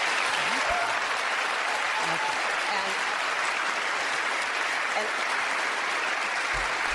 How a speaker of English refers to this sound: Who are those Iowans clapping?